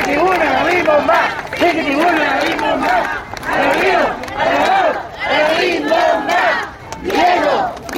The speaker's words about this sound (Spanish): Luego, marcharon acompañando a la carroza hasta el centro del municipio de Yautepec, donde le rindieron homenaje con aplausos y porras.